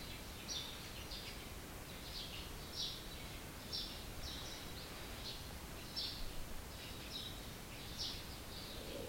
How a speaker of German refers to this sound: Können auch das Vogelgezwitscher draußen wahrnehmen.